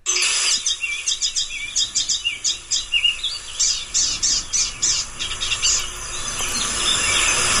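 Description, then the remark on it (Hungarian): A bird sings a long run of quick, repeated high cheeping chirps in a steady rhythm, clear, over a constant high insect-like buzz in the background. “Ez a cíp-cíp-cíp, ez a ilyen furcsa csipogás valami, ez nagyon jellegzetes az énekében.”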